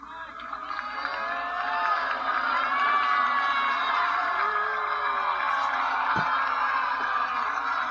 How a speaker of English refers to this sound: He was in the audience of Hamilton last night on Broadway. So as he entered the theater with his security team in tow, there were boos and there were cheers. Listen.